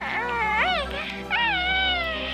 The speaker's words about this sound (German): Ja, das war Baby Yoda aus der Star Wars Serie Mandalorian. Das süßeste Wesen seit Gizmo.